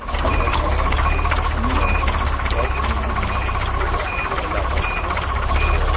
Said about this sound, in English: As dawn breaks over Africa's second highest mountain, three large trucks pull into the specially built 40-hectare holding pens on the grounds of the Mount Kenya Game Ranch.